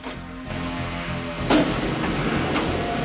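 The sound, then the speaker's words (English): A sliding door rolls along with a steady mechanical whir, then shuts with a single firm thud halfway through, followed by a lingering low rumble. No one speaks. “Storm manages to close a sliding door behind him. The doctor hears the noise”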